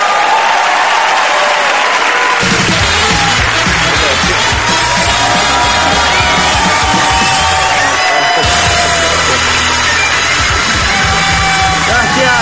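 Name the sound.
audience applause and cheering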